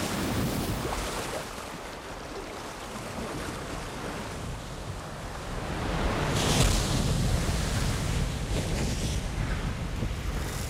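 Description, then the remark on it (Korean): Rough sea waves surge and crash around a US Navy landing craft carrying US soldiers through the water toward the beach at Normandy, France, on 6 June 1944, with gusty wind buffeting the microphone; the roar swells louder midway and stays continuous, with no voices. “이어 장면이 바뀌면서 미 해군 상륙정이 험한 파도를 가르면서 전진하는 모습이 나온다.”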